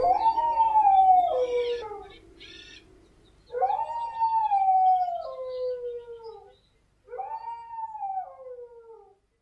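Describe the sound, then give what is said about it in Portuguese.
A dog howls three times in long, drawn-out cries that slide downward in pitch, separated by brief pauses, with the final howl shorter and quieter than the first two. “Uivava baixinho e os uivos iam diminuindo, tornavam-se quase imperceptíveis.”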